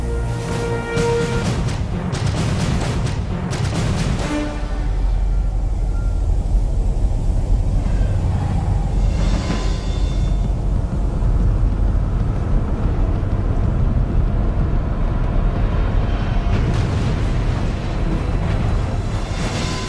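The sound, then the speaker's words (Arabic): A loud, rough pulse-jet engine drone from a German-built V1 flying bomb, rumbling and buzzing steadily for the whole stretch with a harsh, throbbing low roar and no voices. “القنبلة الطائرة V1، تلك كانت المرة الأولى التي يسمع فيها العالم بقنبلة تطير بدفع ذاتي، هي من صنع ألماني”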